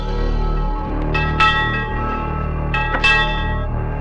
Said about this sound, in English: Stop the boy ringing that bell. You stop the boy ringing that bell. I want you to stop him now! Get out of here now!